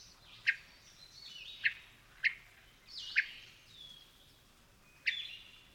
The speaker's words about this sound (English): Hermit thrushes also make other sounds. A common call is a sharp chirp that is thought to signify arousal or alarm.